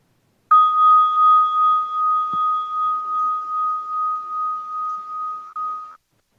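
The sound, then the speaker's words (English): A meditation bell is struck once during a guided breathing meditation and rings alone with a clear, steady mid-pitched tone, gently pulsing as it sustains for about five seconds before stopping abruptly. “And just doing this for the next few breaths until you hear the sound of the bell.”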